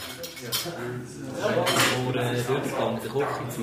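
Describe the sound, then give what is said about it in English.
Cutlery scrapes and clinks against dishes in a steady clatter as apprentices eat soup and meatballs at lunchtime, with several voices murmuring underneath the tableware noise. “Soon it's lunchtime. As the apprentices hungrily gulp down soup and meatballs, their instructors help them plan what they'll do after lunch.”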